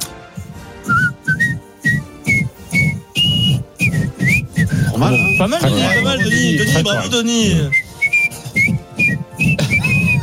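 Someone whistles a melody of short and held notes over a steady rhythmic backing beat, with a busier stretch of overlapping sound in the middle before the whistled tune carries on.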